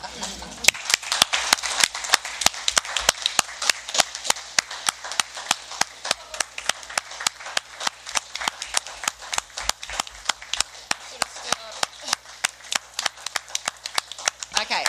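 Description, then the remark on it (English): A crowd applauds the chair steadily at the end of a meeting for about fifteen seconds, dense overlapping claps forming a sustained, fairly loud ovation with no one speaking over it. “So if anyone's going to get a round of applause to finish a meeting, I think it should be you.”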